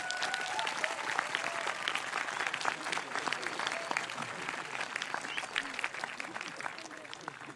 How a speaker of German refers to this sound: Und ich finde es toll, dass jetzt gerade pünktlich zur Zeltlagereröffnung gerade die Sonne rausgekommen ist, und möchte einen kurzen Applaus nach oben richten für den, der es uns ermöglicht hat.